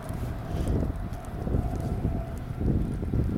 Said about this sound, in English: Hopefully the audio will come out okay. It's a little bit breezy, and there's a lot of traffic noise.